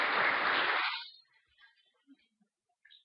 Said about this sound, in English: Thanks, man. Thank you. Hey, you got applause.